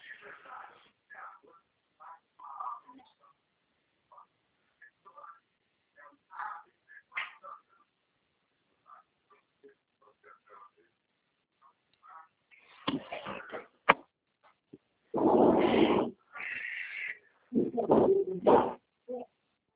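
A female dog whimpers in thin, broken whines for several seconds, then breaks into a few loud, harsh barks, with short gaps between them.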